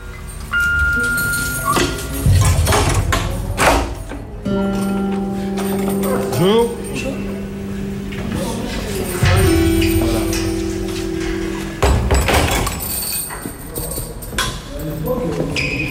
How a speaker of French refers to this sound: Alors là, on est en train de marcher dans le couloir du rez-de-chaussée avec six portes à droite, 3 et 3.